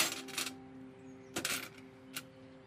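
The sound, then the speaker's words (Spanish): Keys and a badge jingle and clink as they are set down on a small table in a home's entrance hall, with a few short metallic clatters spread over a couple of seconds against a steady low hum. “En el recibidor deja sobre una mesita las llaves y la placa.”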